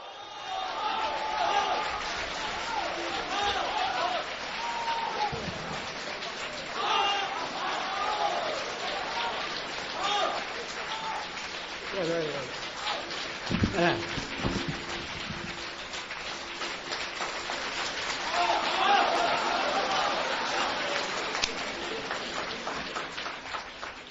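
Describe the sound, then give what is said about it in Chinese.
A live audience at a Beijing Deyunshe crosstalk show cheers and applauds Zhang Wenshun's return to the stage with Guo Degang, steadily for over twenty seconds, a dense, loud wash of clapping with shouting voices rising through it and swelling again toward the end. “老先生当时身体还不是很好，站的时间也不能太长，只说了个小段，但是呢现场观众的这个欢呼声待会儿您从录音中也能够感受到。”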